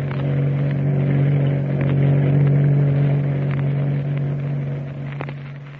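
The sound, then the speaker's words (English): The engine of the ship's launch, the Spray Hound, roaring through the night off the coast of Chile in pursuit of another small craft, in the radio drama The Adventures of the Sea Hound: a loud, steady low drone with a strong humming tone, a few faint clicks and splashes, easing slightly at the end. “Tex and Kukai in the ship's launch, the Spray Hound, roaring through the night off the coast of Chile, pursuing another small craft bearing Commodore Boom Boom, master of the Nazi Sea Raider”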